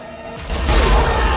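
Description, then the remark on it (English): A tank's cannon fires a heavy, booming blast after a short quieter moment, a loud explosion with deep low rumble that stays strong and rolling to the end, with no voices. “A blast of fire shoots out of the cannon, the turret rotates, and the guns at the sides mow down the men.”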